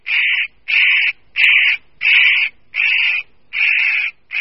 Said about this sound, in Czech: Tímto osobitým způsobem se představuje jinak plachý lesní pták velikosti štíhlejší sojky, ořešník kropenatý.